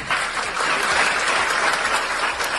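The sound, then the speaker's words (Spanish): Steady, dense applause from a group of people as a man discharged after a coma leaves the hospital with his daughter and wife, many hands clapping at once in a continuous rush that holds at a fairly loud level throughout, with no voices standing out. “Esto que escuchas son los aplausos cuando se iba del hospital junto a su hija y su mujer”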